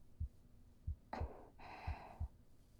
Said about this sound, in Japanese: …の心臓の音、聞こえますか？